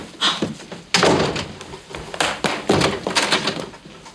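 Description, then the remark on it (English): A door slams shut with a sharp, heavy bang as someone walks out, followed by a few softer thuds and knocks as it settles. No voices are heard. “I forbade her to go, and she looked me straight in the eye and walked out that door.”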